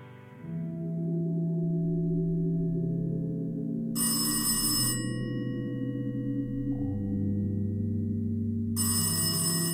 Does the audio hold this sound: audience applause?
no